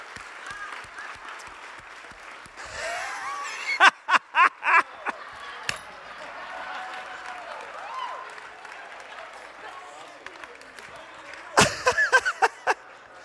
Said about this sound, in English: Give these guys one more round of applause.